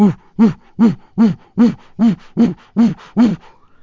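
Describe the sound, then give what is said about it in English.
An owl gives a dog-like barking call: nine loud, evenly spaced bark-like hoots in a steady rapid series, with no talking. “There are even owls that kind of make a sound like barking dogs.”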